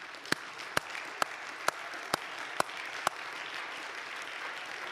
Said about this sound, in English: Thank you, Jesus. Could we clap our hands to him right now?